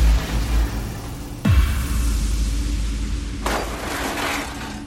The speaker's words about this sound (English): The door shuddered on its hinges as unseen things flung themselves against it.